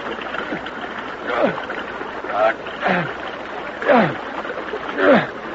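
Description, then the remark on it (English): Repeated splashing and churning of water, about five rhythmic surges over steady flowing-stream noise, fairly loud, as people swim and kick through a stream. “Don't kick the water so hard.”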